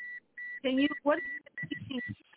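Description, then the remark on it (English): A steady, high electronic beep on a caller's phone line during a radio call-in repeats in short bursts, then drones on beneath a man's voice as he talks over it. “Hello, he's got to stop the beeping sound.”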